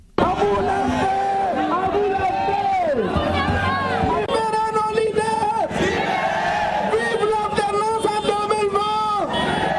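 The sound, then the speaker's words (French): A large protest crowd, opposing a third term for President Alpha Condé, shouts the slogan "Amoulanfe" (Soussou for "it will not pass") in loud, overlapping voices, chanting repeatedly with rising and falling cries that stay dense throughout, with no pause in the noise. “Dans la foule, des cris de Amoulanfe, ce qui signifie « ça ne passera pas » en langue soussou.”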